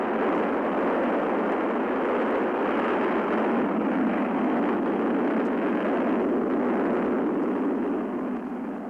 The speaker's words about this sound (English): T-minus 10, 9, 8, 7, 6, 5, 4, 3, 2, 1, 0, ignition, liftoff, and 34 minutes after the hour.